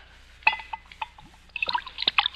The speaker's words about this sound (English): What are you drinking? Sherry. Will you have a glass? Yes, you can pour me a glass of sherry. Well, I assure you, my friend, it's the very best.